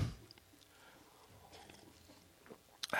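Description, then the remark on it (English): A comedian imitates Caitlyn Jenner drinking water with their mouth: soft, wet lip smacks and gulping clicks, mostly faint, with sharper bursts at the very start and near the end. No words are spoken. “This is my impression of Caitlyn Jenner drinking water.”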